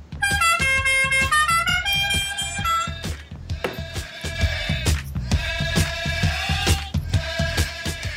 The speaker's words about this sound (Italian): senza dimenticarci il clacson di Hazard che ci segnalerà quando sforeremo i tempi previsti per gli interventi.